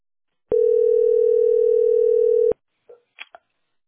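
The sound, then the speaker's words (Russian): A steady, continuous telephone dial tone hums for about two seconds after the receiver is lifted, then cuts off abruptly, followed by a few soft clicks and rustles. “Хорошо, я еще трубку возьму, да?”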